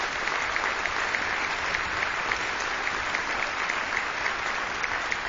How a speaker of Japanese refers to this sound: ありがとうございました、素晴らしいトランペット舞台にもう一度大きな拍手をお願いいたします。ありがとうございました。